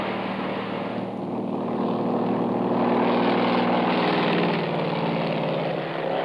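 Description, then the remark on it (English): A loud propeller-plane engine roars steadily, swelling in intensity partway through as the plane is gunned off the ground for takeoff, with no voices present. “We reach the plane, yank open the door and dive in. Frank guns it off the ground just in time.”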